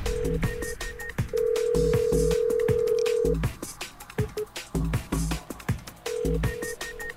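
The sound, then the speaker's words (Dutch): A telephone call being placed: short electronic tones and a long steady dial-like tone, then a repeating ringback pattern, heard clearly with no one speaking. “Ik zie dat jij aan het bellen bent.”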